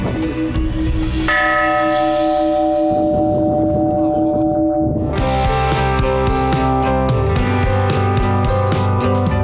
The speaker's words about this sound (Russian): Нами сегодня освященный колокол дополнит чин отпевания молитвенным звоном. Звон колокола – это молитва в звуке. Отныне и навсегда колокольный звон церкви в честь всех святых будет звучать в память о близких и родных ушедших людях.